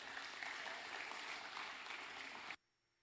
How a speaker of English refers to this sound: Y'all come give a big round of applause today. And y'all clap for Janet as she comes and sings you a special.